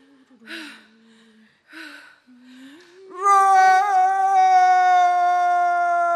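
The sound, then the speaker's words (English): A human voice imitates a lion's roar: a few breathy, growling huffs, then a loud, sustained, strongly pitched bellow that holds steady for about three seconds. “I must break this rope! Roar! I am not free!”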